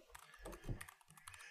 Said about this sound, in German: Wenn deine Tastatur noch nicht so laut wäre. Ist das so? Aber dabei habe ich doch relativ leise Keycaps, also Switches.